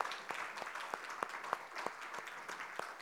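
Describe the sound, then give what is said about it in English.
A church audience applauds the choir after a cantata in a steady, dense wash of clapping, with a few sharper individual claps standing out at irregular moments. Fairly soft, with no voices. “And so I'd ask you to join me in giving them a round of applause for all their hard work.”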